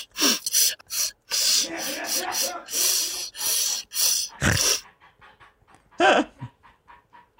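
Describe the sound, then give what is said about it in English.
A dog pants in quick, breathy bursts, then sniffles and snorts through its nose, with a run of short, faint sniffs trailing off at the end. “He's got the sniffles. He does have the sniffles.”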